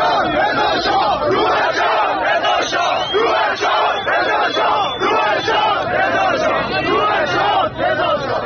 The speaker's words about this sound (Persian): در تظاهرات قم امروز تظاهرکنندگان شعارهایی مانند تظاهرکنندگان روز گذشته در مشهد سر دادند.